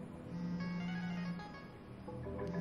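A phone rings after a number is dialed, a steady electronic ringing tone with layered pitches that holds for a couple of seconds, moderately quiet and with no one speaking.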